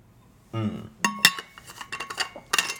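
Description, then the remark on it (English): A few sharp, ringing glass clinks with bright metallic overtones, spaced irregularly among softer knocks and handling sounds, as someone drinks a little water from a glass, with a brief low tonal swallow-like sound at the start and no talking. “Hold on. I'm gonna just have a little water.”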